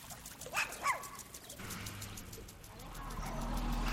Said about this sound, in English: Now, there goes another hay truck. Oh my God, look at those bales. Those are huge bales of hay.